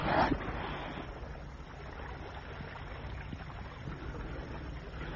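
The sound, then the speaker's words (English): A boat being piloted back to harbor across ocean waves, heard as a steady, rushing wash of water that stays at an even level throughout, with a brief louder splash at the start and no voices. “Hey, it's 11 and I have to pilot this boat back to harbor.”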